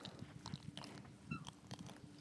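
Wet crunching and chewing from a dog working on a treat, with irregular bites and gnashing sounds repeating for a couple of seconds, no voices.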